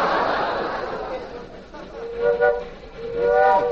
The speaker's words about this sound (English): Look, here come two train engines heading for each other on the same track.